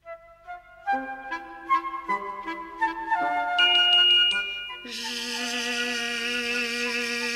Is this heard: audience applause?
no